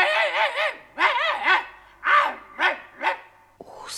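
A dog barks aggressively in a rapid run of about seven loud, close barks, some in quick pairs, with no voices present.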